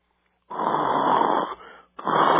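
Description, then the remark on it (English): Two loud, raspy snores, the first long and rattling, then a brief pause before a second begins. A person telling a story deliberately imitates snoring as if falling asleep, with no talking. “Oh, I'm sorry. I almost fell asleep there.”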